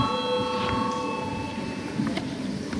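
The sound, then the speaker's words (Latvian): A parliamentary voting bell rings steadily and continuously throughout, a sustained bright metallic tone over a low murmur of background noise. It is rung after the debate closes, before a vote on the third proposal. “Lūdzu zvanu.”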